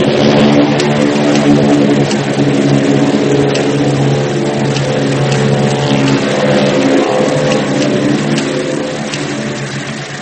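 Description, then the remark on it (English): Glenn Miller's propeller plane, bound for Paris, roars as it takes off, its loud, steady engine drone full of droning harmonics, holding strong before easing slightly toward the end. No voices. “As the plane took off, Haynes had no idea those would be the last words he'd ever say to Glenn Miller.”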